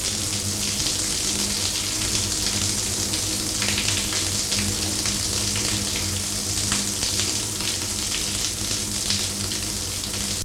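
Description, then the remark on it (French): A shower runs steadily in a bathroom, a continuous hissing spray of water at even loudness with a faint low hum beneath it, and no voices. “Le bruit de la douche.”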